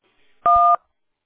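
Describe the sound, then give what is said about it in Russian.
A single telephone keypad tone for the number 1, pressed in answer to an automated phone queue prompt to request a callback: one steady, loud two-pitch beep lasting about a third of a second, with no talking around it. “Нажмите 1, и мы с вами свяжемся.”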